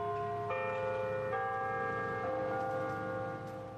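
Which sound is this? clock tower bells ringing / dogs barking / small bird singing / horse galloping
clock tower bells ringing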